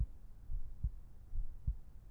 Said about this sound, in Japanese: 私の心臓の音。聞こえますよね。脈打ってるの、わかります？いつもよりずっと緊張してるからですよ。